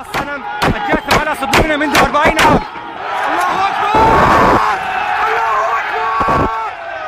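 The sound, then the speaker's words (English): On the streets of Raqqa, Syria, crowds tear down a statue of the late Hafez al-Assad: a rapid series of loud metallic bangs and hammering blows, followed by the crowd roaring and shouting together, with cheers swelling and a couple more sharp crashes through the noise. “Here you can hear the sounds on the streets there as crowds tore down a statue of the late Hafez Assad al-Assad, who founded the current regime.”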